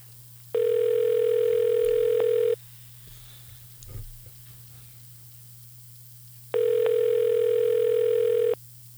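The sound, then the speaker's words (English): A telephone line rings twice, each steady buzzing ring lasting about two seconds with a long pause between, over a constant low electrical hum. “The sound of ringing on the air.”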